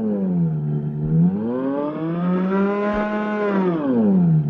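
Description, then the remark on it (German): A droning mechanical howl from an intonarumori "howler" noise instrument, a box fitted with special membranes, with a rich buzzy tone that swells upward in pitch and then sinks back down, like an engine revving, steady and loud throughout with no voices. “Wie ein Auto, das immer schneller wird.”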